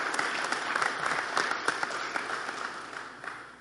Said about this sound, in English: Did I get everybody? Let's applaud them for their commitment.